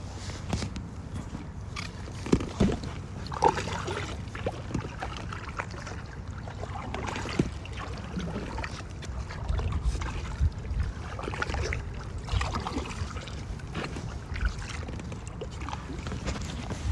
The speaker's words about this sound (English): Okay, I'm now in the kind of canal watery area of the Arboretum. University of Washington Arboretum, and it's so quiet.